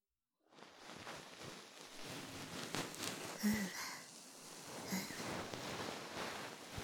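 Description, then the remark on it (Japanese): A fluffy bonten (cotton puff ear pick) brushes right against the ear, gently massaging it: a continuous soft rustling and scratchy swishing that swells and fades over several seconds, with no one speaking. “それじゃ、最後は梵天でふわふわしてやろう。”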